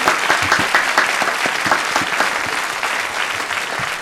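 Steady audience applause welcoming a guest fills the whole clip, a dense wash of many hands clapping at an even, sustained loudness with no voices rising above it.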